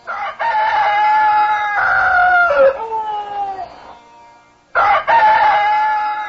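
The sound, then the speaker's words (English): As dawn approaches, a rooster crows loudly: one long, drawn-out cock-a-doodle-doo that falls away, a brief pause, then a second crow starting and running on to the end. “Shukdev Goswami said, as dawn approached, the wives of Lord Madhava, each embraced around the neck by her husband, cursed the crowing roosters.”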